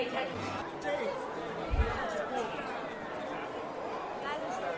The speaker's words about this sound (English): And we've almost reached totality. You can hear the crowd rumbling with excitement.